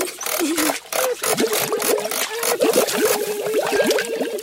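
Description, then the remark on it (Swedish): Water sloshes and gurgles inside a heavy goldfish bowl as it is lifted up, continuous for several seconds, with bubbly, wobbling tones rising and falling as the liquid moves. “Oj, så tungt. Och det skvalpar.”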